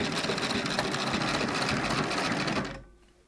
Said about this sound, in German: sitzt mittlerweile an ihrer Nähmaschine. Nachdem die Familie von der Maisaussaat zurückgekommen ist, muss sie Geld verdienen. Noch am späten Abend stickt sie mit atemberaubender Fingerfertigkeit Kakteenblätter und andere Motive